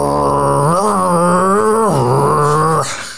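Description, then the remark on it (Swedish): A voice imitates the engine of a Toyota Yaris hybrid with a CVT gearbox with a sustained, droning hum, its pitch wavering and dipping midway before holding steady and cutting off after about three seconds. “Det är en Toyota, det är en hybrid Toyota med CVT-låda. Och den låter som en liten rallybil.”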